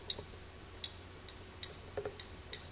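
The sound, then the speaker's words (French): A pendulum clock ticks steadily, about seven crisp, light clicks at an even pace, quiet, with nothing else around them. “La pendule qui tricote.”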